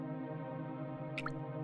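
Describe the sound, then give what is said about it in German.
Water drips into a sinter pool formed in a cave chamber, two quick plinks close together near the end, over a steady low droning background with a hollow, enclosed feel. “Kannst du die Tropfen fallen hören?”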